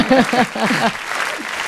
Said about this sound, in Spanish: Mira el aplauso, te lo ponen largo y todo.